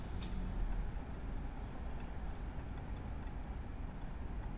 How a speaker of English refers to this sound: And everyone likes the sound of a train in the distance,